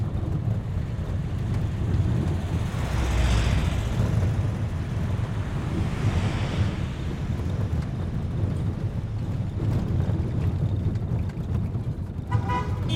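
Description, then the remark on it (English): Trucks carrying people rumble steadily along a road through Baguio toward Camp Holmes, a heavy low engine drone with wind noise, two swells as vehicles pass by, and a short horn toot near the end. “How else are they going to get us up to Camp Holmes in these trucks?”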